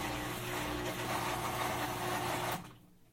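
A washing machine with clothing inside starts its spin cycle, the drum beginning with a brief spin that gives a steady mechanical whir with a low, even motor hum, then cuts off abruptly near the end, leaving quiet. No talking.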